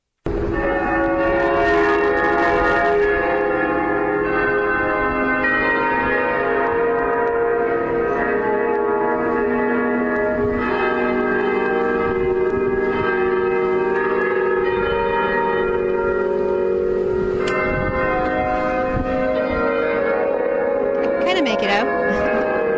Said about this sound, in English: let's listen to a little bit of the cathedral bells playing …